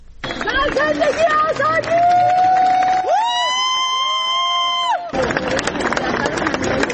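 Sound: crowd cheering and applauding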